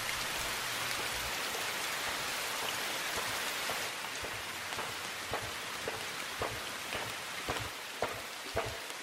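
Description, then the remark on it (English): Steady rainfall in a video game trailer hisses evenly throughout, with occasional sharper drops or drips pattering. No voices, just the continuous wash of rain. “What you're seeing is you're seeing this rain-swept place of mystery.”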